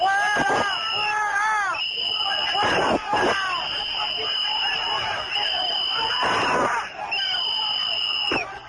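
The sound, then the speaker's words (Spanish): A crowd screams and shouts in chaotic bursts over a constant roar of babble, with a few sharp bangs and a steady high whine; strikers during a police charge at the gates of the Airbus factory in Getafe, Spain, in the general strike of 29 September 2010, with police firing shots into the air. “Ahí hubo una carga policial, hubo decenas de heridos, disparos al aire de la policía, y de ahí han salido 8 acusados.”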